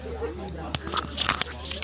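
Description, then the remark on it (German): A woman swallowing food during dinner at a hotel, with soft wet mouth sounds and a few crisp crunchy clicks bunched in the second half, over a low steady background hum. “Oh, sie ist gerade noch am Schlucken.”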